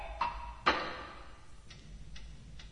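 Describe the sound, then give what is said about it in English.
A bomb timer ticks with sharp mechanical clicks, two louder strikes up front and then softer, evenly spaced ticks over a faint low hum, with no voices. “So the end of episode 3 is, a bigger bum gets put down. And it's a really interesting ticking noise it's got.”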